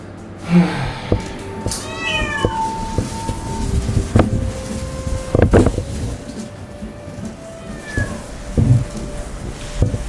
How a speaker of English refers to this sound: By the time I got there, he was not happy, and he was meowing up a storm in the elevator. I know. We're just in the elevator now, okay, buddy?